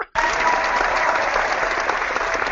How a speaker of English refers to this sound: But when you introduce somebody, you give them applause.